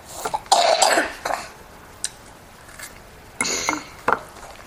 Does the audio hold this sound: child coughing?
yes